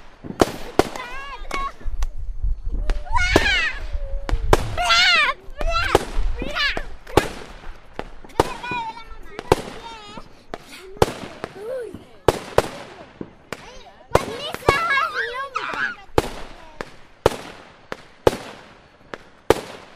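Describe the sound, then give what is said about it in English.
Fireworks bang and crackle nonstop in a rapid, irregular barrage of sharp cracks and booms, some loud, with whistling tones and voices mixed in underneath, just after midnight on December 25. “Should probably put the fireworks in Newmarket to shame.”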